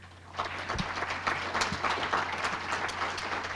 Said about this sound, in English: You guys, keep clapping. He's my boss. Keep it going. He's my new boss.